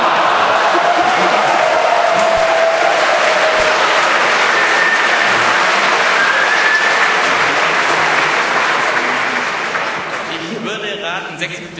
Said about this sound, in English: We need the sound, so please let's have the sound on the speakers. 300. Wer es erkennt, darf drücken. Everyone that recognizes may press a button. What is the dial-up sound of a modem? What speed?